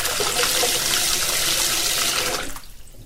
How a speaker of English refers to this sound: But anyway, first things first, let's put the sink, maybe the plug in, put some water in here. It's very hot water here. I'll cool it down a bit.